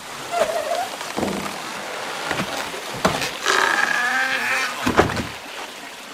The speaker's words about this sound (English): Imagine a wooden beam the size of a telephone pole, balanced like a seesaw. One end is hollow, and as it fills with water, it dips lower and lower until the water all drains out again and the other end of the karausu comes crashing down.